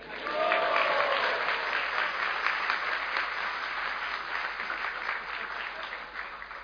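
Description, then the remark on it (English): Sustained audience applause at the 150th Prerna Festival, received on behalf of IOS, a dense steady wash of many hands clapping at even loudness for several seconds, tapering slightly at the end, with no voices standing out. “On behalf of IOS, he's receiving the applause.”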